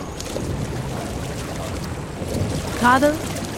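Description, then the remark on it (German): A large water mill wheel rushes and splashes in a steady, continuous wash of water noise, with a brief voice sounding near the end. “Mit dem Rauschen und Plätschern ihres großen Mühlrades.”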